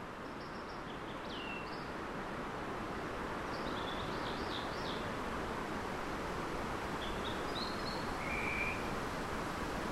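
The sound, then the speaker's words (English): A steady, distant rush of the Ho River, which drains the rainforest, fills the scene with an even, unbroken roar echoing off the far side of the valley, while a few faint bird chirps flicker briefly above it. “And then we'll hear further away the sound of the Ho River that drains the rainforest, echoing off the far side of the valley.”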